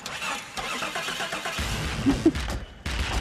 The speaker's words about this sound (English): They've got another person operating the power seat and the windows. They start the car at one point. It's just a whole symphony of music from this one car.